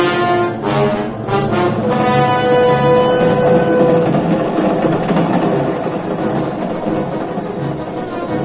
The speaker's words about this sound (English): A subway train, Midtown, New York.